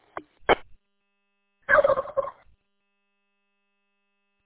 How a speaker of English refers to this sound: Yeah, that turkey wasn't expecting that.